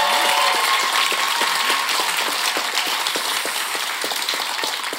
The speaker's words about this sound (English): Yes, it is quiz time, and we've got some fabulous contestants on stage tonight. Could you please stand up and round of applause for our contestants?